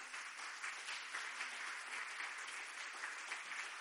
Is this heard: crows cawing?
no